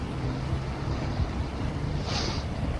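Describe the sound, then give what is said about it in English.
An orange motor launch's engine drones low and steady on the water as it runs along the shore up to the quayside to land, mixed with wind and sea noise, with a brief hissing splash near the end. “I've just seen that the orange launch at the side of the Nannel has left the boat.”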